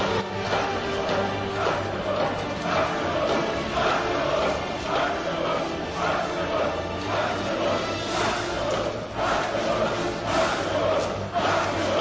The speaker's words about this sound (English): Remember that? That's when they were cheering him after he defeated all his enemies in the ring.